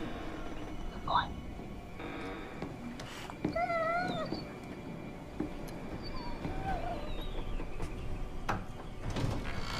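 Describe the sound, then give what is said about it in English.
A door creaks open on squeaky hinges, a drawn-out, wavering squeal lasting about a second, with a few fainter creaks and rustling noise around it. “Freaking door. They didn't have WD-40 back then.”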